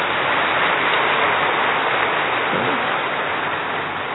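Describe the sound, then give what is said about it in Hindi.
A crowd applauds steadily, a dense, even wash of many hands clapping at once that holds at a loud, constant level for the whole four seconds, with no voices heard. “ताली बजाओ खुद के लिए।”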